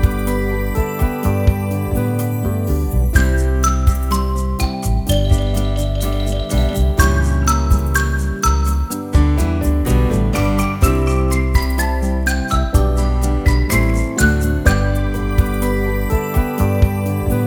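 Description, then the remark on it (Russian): A little bell tinkles in quick, repeated bright notes, woven into a loud, steady instrumental music track with a strong low bass line throughout; no one speaks. “Колокольчик трепещет.”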